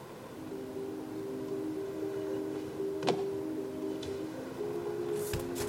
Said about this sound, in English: I'm in the car right now.